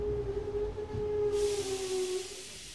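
A train rumbles along with a steady whining tone that gradually drops in pitch as it slows on arrival at the station in Venice, then a loud burst of hissing air cuts in as it comes to a stop.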